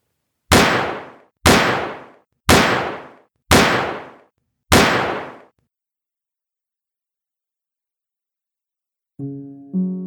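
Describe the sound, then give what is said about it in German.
Five loud, sharp pistol shots, from the shooting in which Alois Obrist killed Anna Sutter and then himself, ring out about one second apart. Each has a short, fading reverberant tail, then silence before a brief tonal sound at the very end. “Sieben qualvolle Schüsse.”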